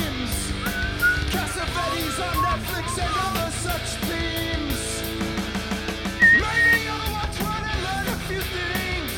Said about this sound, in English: Did I hear some whistle accompaniment?